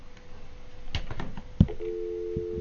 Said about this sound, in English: There are now four different telephone systems in this studio. They will work. If I pick up the phone to call, you will hear.